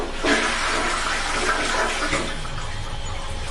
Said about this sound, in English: What I just heard, personally, That sounded like the toilet flushing.